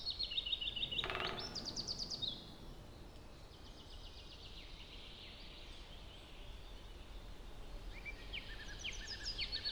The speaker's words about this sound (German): Und so viele Vögel höre ich. Ich weiß gar nicht, wie sie alle heißen. So viel aber ist sicher. Sie klingen vertraut. Nach Wald eben. Nach vertrautem Wald.